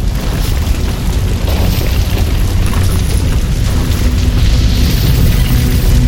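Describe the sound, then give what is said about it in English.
A deep, sustained rumbling roar fills the scene, loud, as an explosion at the BASF fertilizer factory in the village of Opal, Germany, in September 1921 gives way to fire roaring through the factory, with heavy low-end booming throughout and no voices. “In the village of Opal, 90 miles south of Frankfurt, Germany, an explosion engulfs the local BASF factory.”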